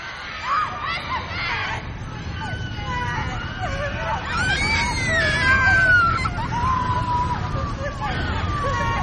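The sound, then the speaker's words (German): A crowd of voices shouting and screaming over a dense, rumbling background, with high wailing cries rising and falling and sustained loud commotion throughout. “Da hörte ich auf einmal lautes Geschrei.”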